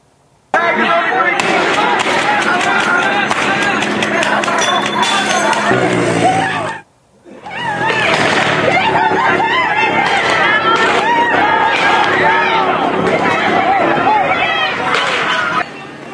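A loud, chaotic street clash between protesters and law enforcement in Paramount, near Compton: dense crowd shouting and commotion as protesters try to block vehicles and throw objects at cars, punctuated by scattered sharp pops of rubber bullets fired by officers also using pepper spray, with a brief lull partway through.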